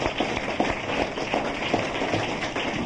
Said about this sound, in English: Let's have a round of applause for our speaker